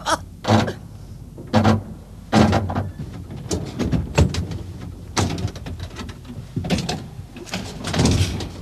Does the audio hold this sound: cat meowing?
no